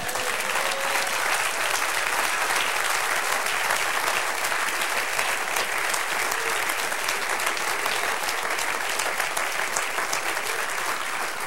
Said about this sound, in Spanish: ¡Dale otro aplauso!